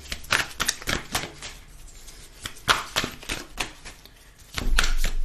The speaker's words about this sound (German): Haben wir noch eine Abschlussbotschaft aus den Soul Cards? Huch. Misch, misch, misch, misch.